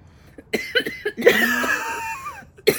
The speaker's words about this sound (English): Oh. A little coughing.